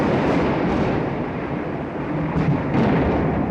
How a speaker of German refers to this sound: Ja, was so laut war das? Ist. Donner? Das war Donnergrollen.